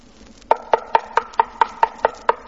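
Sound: knocking on a door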